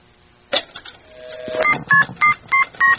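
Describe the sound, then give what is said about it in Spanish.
A telephone number being dialed: five short, evenly spaced DTMF keypad tones ring out clearly near the end, preceded by a click and a brief steady tone with some mechanical rustle. “Ya me está gustando esto del teléfono mágico. ¿A quién le llamamos? Albert Einstein. Ese está bueno. A ver. Marquémosle.”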